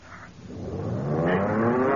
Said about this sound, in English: The engine. We've started again. We're in a dive.